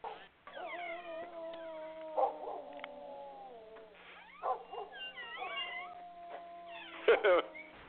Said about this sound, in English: But yeah, believe it or not, when you was begin reading that, all the dogs in the neighborhood here begin howling like wolves. It's just really strange.